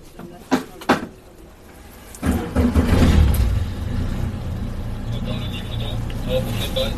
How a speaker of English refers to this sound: I'm about to disembark from the boat that you can probably hear I'm on. We're looking out onto the French coast, it's Normandy to be precise